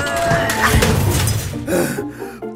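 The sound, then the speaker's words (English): A loud, jumbled crash of 3 tons of aluminum junk being dumped into a car trunk, metal pieces banging and ringing for about two seconds before a final few clanks settle. “3 tons of aluminum.”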